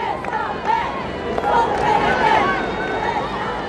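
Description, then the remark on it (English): A large outdoor crowd cheers along the steep, winding streets through a town in cold, damp weather as the Popemobile passes. Dense, continuous babble, with scattered voices and raised calls rising above a steady roar, loud throughout. “Though the weather had been cold and damp all day, cheering crowds lined the steep, winding streets through the town.”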